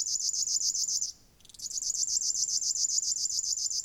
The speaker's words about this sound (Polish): strumieniówkę usłyszeć można przede wszystkim na obrzeżach Olsów. Śpiewa przez całą dobę ze szczególnym natężeniem o świcie i o zmierzchu.